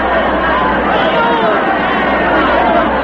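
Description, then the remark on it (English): A dense, steady roar of a crowd of deserters filling a square, with many voices shouting and screaming over one another as they run, and a constant churn of movement, loud throughout without any pause. “They're shouting and screaming and running.”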